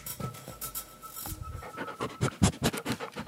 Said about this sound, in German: Ihr Hund interessiert sich für mein Mikrofon. Jetzt kommst du ins Radio.